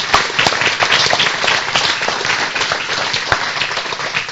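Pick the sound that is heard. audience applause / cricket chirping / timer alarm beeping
audience applause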